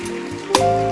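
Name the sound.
audience clapping hands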